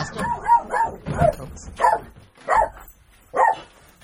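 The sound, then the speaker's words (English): A dog barks repeatedly, about six sharp barks in an uneven rhythm, fairly loud, with brief pauses between them and no other sound standing out. “Well, I'm trying to wait until the dog stops.”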